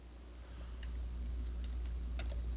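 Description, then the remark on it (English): A few light, scattered keyboard clicks tap out irregularly over a steady low hum, fairly quiet, with no voices, as someone types a chat message. “I'm just typing the chat quick.”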